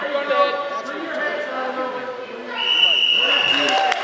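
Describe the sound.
A small crowd of spectators cheers and shouts at a high school wrestling match in the St. John's College High School gym in Washington, D.C., many excited voices overlapping steadily, growing louder in the second half with a sustained high-pitched yell.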